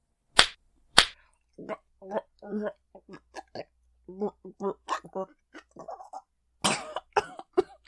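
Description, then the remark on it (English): Two sharp, loud slaps on a person's face land in quick succession, then a third crack follows a few seconds later, with a person speaking between the hits. “Yes, slap me as much as you want to.”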